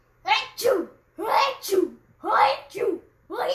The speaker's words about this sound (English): That was pretty cool when he kept sneezing and switching over.